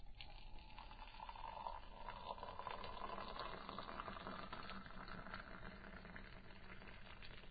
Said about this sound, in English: Could you pour the tea any slower?